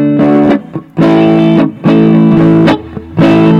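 Loud, distorted electric guitar chords strummed in four sustained bursts with short gaps between them, played through an amp on its classic voice setting with almost flat frequency response and 6L6 character, rich in harmonics with a gritty, broken-up tone. No one speaks.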